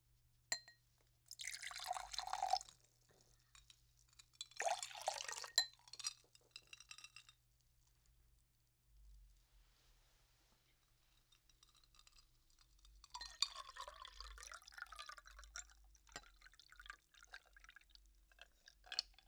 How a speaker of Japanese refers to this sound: では皆さんおそらく大好きな炭酸飲料水の音を聞いてもらいましょう。氷がぶつかる音です。ではちょっと注いでみますね。